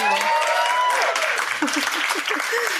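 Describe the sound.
An audience breaks into steady, dense applause welcoming the MC for the afternoon, lasting throughout, with a few voices calling out and cheering over the clapping.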